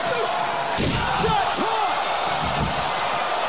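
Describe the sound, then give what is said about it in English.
A large wrestling arena crowd roars in a loud, sustained wall of cheering and yelling, with a few sharp whoops and whistles rising out of the noise. “Crowd went nuts.”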